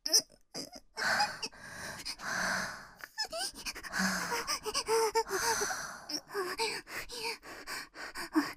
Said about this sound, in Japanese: 恐怖と快楽で、吐息が荒くなる。